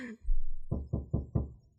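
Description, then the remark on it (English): Four quick, heavy knocks on a stuck door that will not open, evenly spaced, following a brief low rumble, with no voices. “I can't open the door.”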